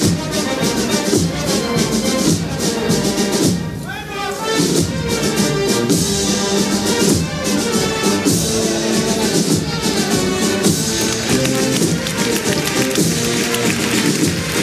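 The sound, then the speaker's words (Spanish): A large crowd in Seville claps steadily and densely as the Esperanza de la Macarena procession enters its church at the end of the early-morning processions, a continuous wash of applause at an even loudness, with tonal band music sounding underneath throughout. “Lo que escuchas son los aplausos porque está entrando ya la Esperanza de la Macarena en el templo, está a punto de entrar en uno de los momentos más emocionantes para los sevillanos”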